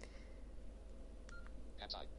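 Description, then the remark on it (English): A sentence being typed on a device that beeps, demonstrating how to add a new word to its dictionary: a few short, high electronic key tones in quick succession, one held slightly longer, over a steady low hum. “Okay, listen as I type.”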